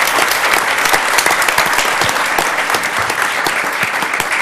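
A crowd in Portland claps steadily in sustained, dense applause for the Arts Tax and the voters of Portland, with first graders from Boise Elliott Humboldt present. The many overlapping hand claps form a loud, even wash of sound for several seconds with no speech.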